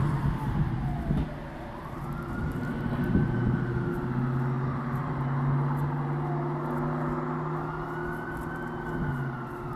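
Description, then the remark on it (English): A loud car with a wailing siren that slowly rises and falls in pitch, carried over a steady low engine and traffic rumble. No one speaks. “Send in the loud car.”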